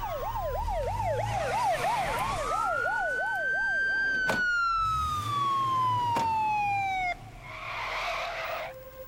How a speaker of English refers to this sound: Then sirens filled the air.